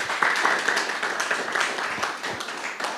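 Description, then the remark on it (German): Sustained applause welcoming a group at the start of a church sermon: a dense wash of many hands clapping steadily for three seconds at a fairly loud level, with scattered sharper claps poking through and no one speaking. “Mal einen fetten Applaus für die Maxis.”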